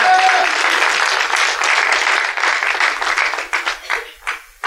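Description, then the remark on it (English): A church audience breaks into sustained hand clapping of praise, a dense, loud patter of many hands that holds steady, then thins into a few scattered claps as it dies away. “Give the now the hand clap of praise.”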